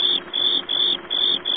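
cricket chirping sound effect

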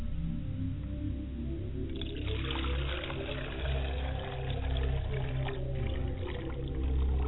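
liquid poured as libation

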